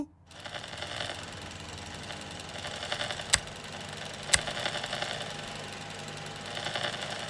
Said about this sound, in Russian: Ладно, я запускаю микроволновку.